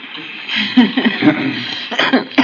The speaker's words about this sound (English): All right. Now, what are you coughing about?